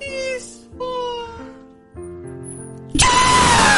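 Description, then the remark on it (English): Wavering, meow-like vocal cries give way to a sudden, harsh scream right up against the microphone, loud and distorted enough to overload it for the final second. “You gotta get it more off mic when you scream.”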